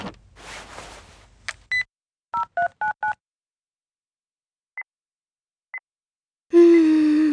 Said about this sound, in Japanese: うん、待って、ちょっと電話してみる。